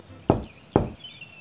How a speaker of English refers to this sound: Now to the house comes Goldilocks, and on the door she gives three knocks.